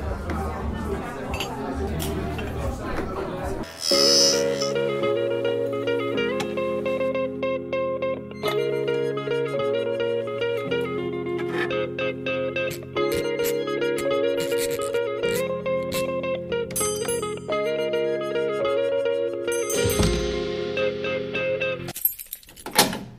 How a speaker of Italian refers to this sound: Andiamo a sentire una canzone di …, si chiama ….